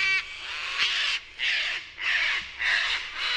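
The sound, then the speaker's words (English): A sulfur-crested cockatoo screeches harshly and loudly, letting out four or five raspy squawking calls in quick succession with brief gaps between them. “In several neighborhoods of Sydney, sulfur-crested cockatoos have learned ways to open trash bins and grab some leftover food.”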